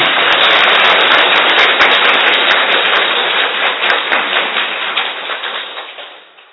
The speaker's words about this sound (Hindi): हाँ, पहली बार तो भले ताली बजाए, हाँ, जोर से ताली बजाए।